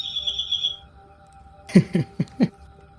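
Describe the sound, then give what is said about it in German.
A bird clock in a kitchen chirps: a steady high whistled note, then after a pause four quick, evenly spaced chirps, fairly loud, with no voices. “Wir haben eine Vogeluhr in der Küche.”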